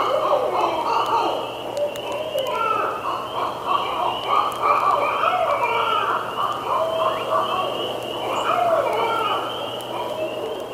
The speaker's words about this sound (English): we heard that owl or whatever it was doing its screech. It's, I'm not even going to try to imitate it. It sounded kind of like this.